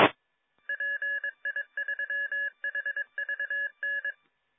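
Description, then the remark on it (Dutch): Amateur radio repeater tones: after a short burst of static, a rapid series of clear electronic dual-pitch beeps plays in uneven clusters for about four seconds, with no voices. “Zo, even de repeater zijn gang laten gaan.”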